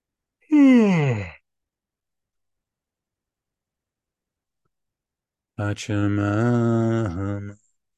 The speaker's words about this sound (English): After this yawn.